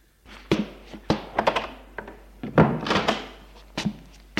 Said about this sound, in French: Il la fait entrer et ferme la porte.